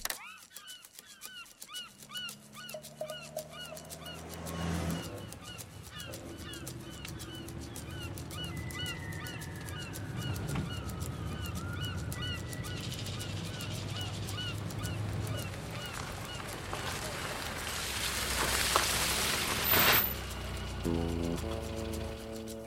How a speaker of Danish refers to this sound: Anna, hen over Storebæltsbroen, hvad for nogle fugle kan vi regne med, at Thor han, kan høre ud af vinduet der? Det må være havmåger, tænker jeg. Okay. Jeg tror, vi nøjes med havmåger.